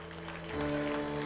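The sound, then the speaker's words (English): An audience claps steadily as a clap offering to the Lord, a dense wash of hand claps that swells louder about halfway through, with sustained low musical tones holding underneath. “Would you give the Lord a shout and a clap offering for that right now?”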